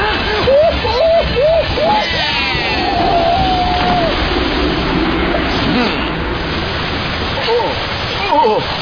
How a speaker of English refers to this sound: Water everywhere! All over me! I'm getting wet!